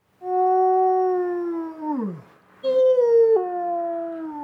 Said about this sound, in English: I know. Is it a wolf? Yes, it is.